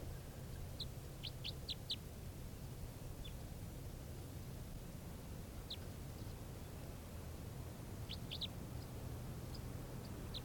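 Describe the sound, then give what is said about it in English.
Short, high-pitched bird chirps, a type 3 variant call, come in quick clusters of three or four, with pauses between groups, over a steady low rumble of background noise. No one speaks. “This is the bird.”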